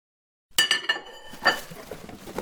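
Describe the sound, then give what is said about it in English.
Dishes clink and clatter as they are handled and packed up while a house is being packed, with sharp ringing strikes at first, then a busy jumble of softer knocks and scrapes. Fairly loud, no voices. “Jerry broached the subject with her as we packed dishes.”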